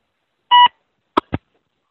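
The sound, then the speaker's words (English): A single short electronic keypad tone from a cell phone being used to place a call, followed a moment later by two quick clicks like buttons being pressed. No one speaks. “So I think my phone is beeping now, so I may, while I'm talking to you, call up with my cell phone because my battery may be bad.”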